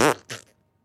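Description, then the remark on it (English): A person blows a wet, sputtering raspberry with their mouth, two quick bursts close to the mic, imitating a fart, then silence. “Should we make fart noises?”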